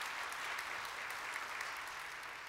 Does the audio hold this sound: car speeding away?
no